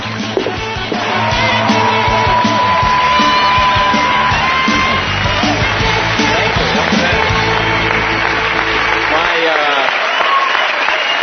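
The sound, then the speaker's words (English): A studio audience erupts in sustained applause with loud cheers and whoops rising over the clapping, holding steady for several seconds before tapering slightly near the end. “What a good crowd. Isn't this a good crowd?”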